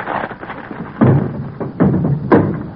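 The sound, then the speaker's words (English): A girdle breaking with a thud in a phone booth: a low rumbling scuffle, then three loud, heavy thumps spaced about a second apart, with no voices. “My girdle broke.”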